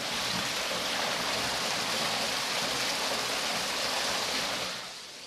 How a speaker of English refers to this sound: Here we are, the source of the water, and there it is. Mini waterfall.